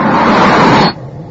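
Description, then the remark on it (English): A car driven by a corporal rushes up with a loud, broad roar that cuts off abruptly as it halts, leaving only a low, quiet rumble. “Car. This will do.”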